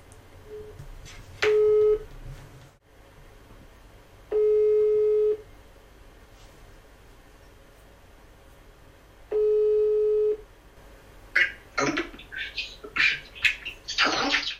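A producer places a phone call to Zambia: brief dialing tones, then a steady ringback tone sounding three times with long pauses between, followed by crackly, chirping line noise as the call connects over a poor connection.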